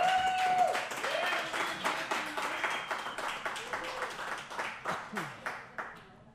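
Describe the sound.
A small audience applauds, dense clapping at first that thins into a few slower, evenly spaced claps before fading out, with faint voices and cheers mixed underneath.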